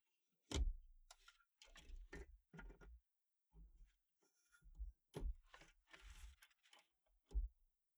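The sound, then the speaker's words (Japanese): Paper is set and wound into a typewriter, held down with the paper bar and positioned, with crisp ratcheting clicks and sharp mechanical snaps in irregular bursts separated by brief pauses, with no talking. “私、てっきり挟むだけなのかと思ってたんですけど、巻き取った紙の方に文字が打たれていくんですね。 で、なるほど、紙をバーで押さえる。”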